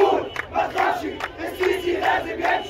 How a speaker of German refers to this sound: Auf dem Tahrirplatz in der Hauptstadt dürften es ein paar hundert gewesen sein. In Sprechchören verlangten sie, dass der Präsident abtritt.